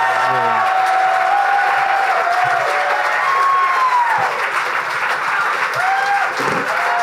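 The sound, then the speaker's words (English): A crowd at the Brooklyn Ballroom applauds performers being introduced on stage, with dense, continuous clapping mixed with whoops and cheers rising above it, loud throughout without a break. “Please give it up, everybody, for Big J Ogerson, Trey Gagnon, Mike Cannon, and Lewis J.”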